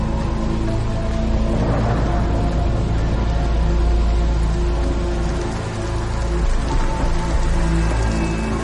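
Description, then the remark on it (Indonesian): Steady rain pours down during a film shoot in a continuous, dense hiss that fills the whole stretch, with a low droning hum running underneath and no voices. “Satu jam kemudian, hal yang tidak diharapkan akhirnya terjadi. Hujan mulai turun.”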